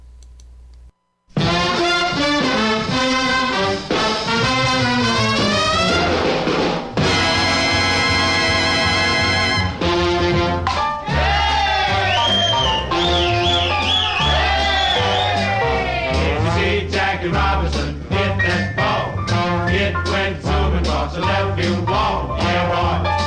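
A big band swing record of a 1949 baseball tune, recorded in New York, starts up after a brief quiet moment, with punchy brass section stacks over a steady walking bass, playing loud and full throughout without any singing yet.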